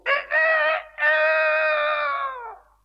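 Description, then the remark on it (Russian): A rooster hidden under a window crows once, loud: two short clipped notes followed by a long, drawn-out cry that trails off and fades at the end. “Вы, конечно, понимаете, что осел только открывал рот, а кричал спрятавшийся под окном петух.”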